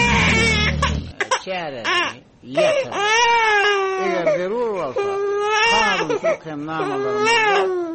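baby crying

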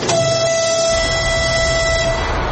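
train whistle

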